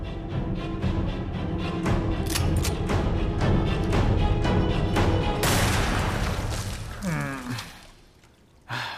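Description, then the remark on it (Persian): Rifle shots crack out in a quick, irregular series over a loud, dense background, followed by a rushing burst of noise and a short falling whine. “درسته، با این حال تمام ساکنین ادعا میکنن که صدای تیراندازی رو نشنیدن.”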